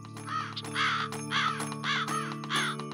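A magpie gives four harsh, raspy calls in an even rhythm, each loud and scratchy, over a steady low hum with no talking.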